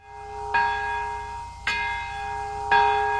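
Twin cathedral bells in Nagasaki, Japan, ring together in three heavy strikes about a second apart, each leaving a rich, sustained hum that carries into the next. They ring in unison for the first time since the 1945 atomic bombing, marking its 80th anniversary. No voices are heard.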